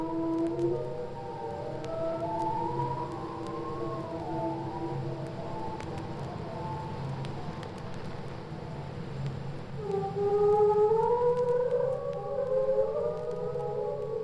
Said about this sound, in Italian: Note molto acute, rallentate di un quarto per poterle alzare di 2 ottavi e aumentare la loro durata. Il rallentatore serve a mettere in evidenza la fantastica complessità dei suoni più alti del canto delle balene.